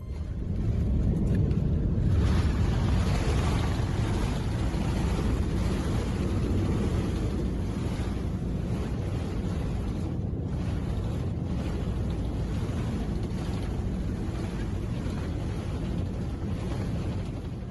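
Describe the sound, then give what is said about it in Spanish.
An Air Canada Boeing 767-375 with about 130 passengers makes an emergency landing at Madrid's Barajas airport on 3 February 2020, heard from inside the cabin: a loud, steady low roar of engines and rushing air that holds evenly throughout, with no voices standing out. “A las 7 y 6 de la tarde del lunes 3 de febrero de 2020, el Boeing 767-375 de Air Canada, con 130 pasajeros, 6 tripulantes de cabina, un comandante y un copiloto a bordo, aterrizaba.”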